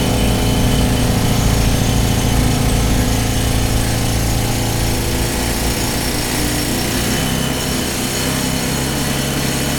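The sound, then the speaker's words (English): A drill bit bores steadily and loudly, a continuous grinding whine over a deep mechanical rumble that holds for the full length without pause or speech. “Last frontiers overcome by mineral navigators, their compass and prow, the drill bit.”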